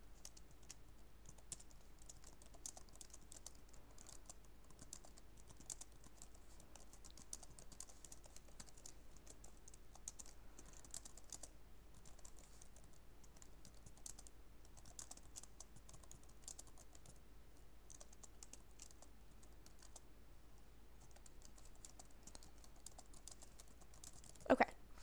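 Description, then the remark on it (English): Soft, rapid typing in Microsoft Word on a quiet Dell laptop keyboard, a steady stream of light clicks and taps continuing for the whole stretch with no talking, ending with one slightly sharper knock. “And now I'm going to just type and let you hear what the keyboard sounds like.”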